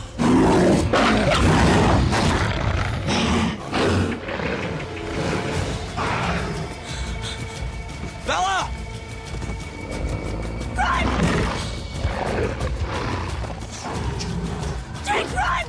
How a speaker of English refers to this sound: All that snarling came after the guy she slapped turned into a wolf the size of a bear and went after her.